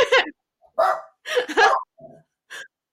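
dog barking

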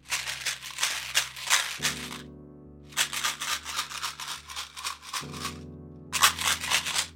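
chewing gum

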